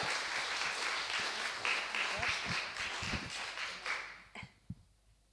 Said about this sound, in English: We thank you for being here, and give her a big round of applause as she comes up, yeah?